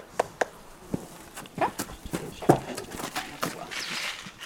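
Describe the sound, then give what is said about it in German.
Horse hooves clip-clop at an uneven walking pace, a series of sharp knocks, with some faint background noise and a brief murmur of a voice; a horse being ridden and trained in the mountain and valley landscape of the Bohemian Forest. “die nicht nur reitet, sondern eigene und fremde Pferde in der Berg- und Tallandschaft des Böhmerwaldes auch trainiert.”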